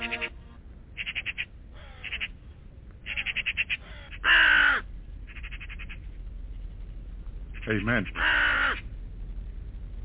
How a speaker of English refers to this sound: And as Jesus talked to the raven, they respond back to him, as you hear. The raven was responding back to him, the Lion of Judah.